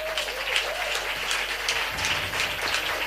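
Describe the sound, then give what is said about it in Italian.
A concert audience in Padova applauds the venue, Sherwood Open Live, steadily for about three seconds, a dense, even patter of many hands clapping at once with no voices rising above it. “Sono qui perché questo posto è il posto dove suonare a Padova quest'anno, e gli farei un grande applauso.”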